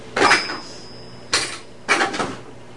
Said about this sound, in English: Excuse me. Here's my money. You gonna use the cash register?